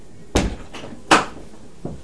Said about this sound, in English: Before you shut the door. Thank you.